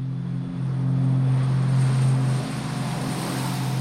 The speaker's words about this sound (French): Le 4 avril, enfin, son avion décolle.